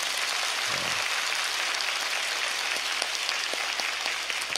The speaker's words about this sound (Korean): 네, 교육목장 우리 미취학 어린이 청소년 부모님들과 함께 많이 아이들 오고 있는데 부속실에도 물론 있지만은 우리 다시 한번 우리 다음 세대들을 위하여서 큰 박수로 격려합니다.